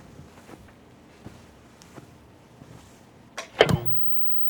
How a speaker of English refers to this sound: Next, we hear footsteps followed by the sound of a television being turned on.